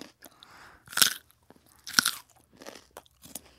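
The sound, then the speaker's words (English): Loud crunching as raw carrot is bitten at an Easter meal, with two sharp bites followed by softer chewing crunches in an uneven rhythm. “The ham is soft, the carrots are crunchy.”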